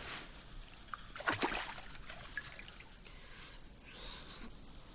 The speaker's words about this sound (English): Look at there, the eastern part. There is a narrow stream of water which is flowing from the ceiling, pouring into a pool at the cave's foot.